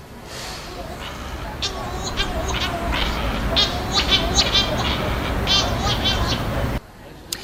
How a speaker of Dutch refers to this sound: Want we hadden namelijk net, hadden we de graaia. Die werd het geluid van getoond en dat vonden wij niet klinken als deze vogel die Peter heeft opgenomen. Alhoewel Odette dus nog steeds vindt dat het het wel is. Hebben we het geluid?